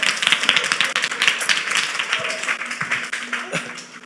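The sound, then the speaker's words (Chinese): A crowd claps hands in a dense, continuous patter of overlapping sharp claps, fairly loud and steady over about four seconds, with faint voices mixed in. “没有啦，快点来啦，来来来来来来来来来来，拍手拍手一下。”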